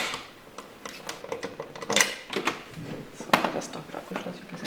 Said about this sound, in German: Das versteckt sich hinter einer weiteren Tür, hinter der das eigentliche Fasslager ist. Und da gehen wir jetzt rein. So, jetzt kommt der große Moment. Jetzt kommt das kleinste Markmöhrenlager. Doppeltür, Ja. dicker Schlüssel.